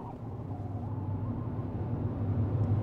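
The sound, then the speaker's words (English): A steady low rumble inside a moving car driving out of Tombstone, with engine and road noise droning evenly at a moderate level and no voices. “There are many questions spinning in our heads as we drive out.”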